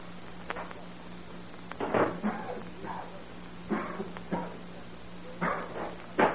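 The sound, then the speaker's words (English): A series of harsh, rasping coughs in irregular bursts, some short and some drawn out, over a steady low hum with no talking. “Oh, that darned old cough again.”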